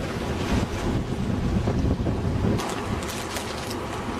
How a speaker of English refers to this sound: Strong winds from the west.